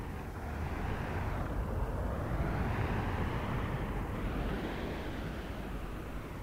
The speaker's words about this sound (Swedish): Stormen som viner över Hallandskusten har med all den förödelse den kan åstadkomma för till exempel elnätet och skogarna ändå sett som en befriare när det gäller havet.